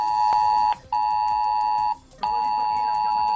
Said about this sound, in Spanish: Pues el sábado el aviso de meteorología pasó de amarillo a rojo en cuestión de horas. Sobre las 9 de la noche la alerta sonaba en los móviles de 27 municipios de la provincia de Málaga.